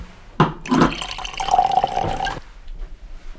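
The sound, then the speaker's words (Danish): Wine is poured into a glass for another person in a steady gurgling stream for about two seconds, its tone rising as the glass fills, then stops abruptly into quiet. No one speaks. “Skinker jeg op til dig.”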